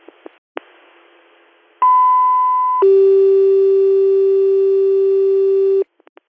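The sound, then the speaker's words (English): A loud two-tone dispatch alert dropped over the radio for an ambulance fall call in the town of Wayland: a steady higher tone holds for about a second, then drops to a lower, buzzier tone lasting roughly three seconds, framed by radio static and clicks. “I'll drop your tone.”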